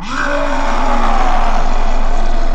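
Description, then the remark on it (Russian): A human voice lets out a loud, sustained beastly roar, imitating a wild forest creature, one long rough growl lasting a couple of seconds with no words. “Я вижу, мне придется рявкнуть по-лесному.”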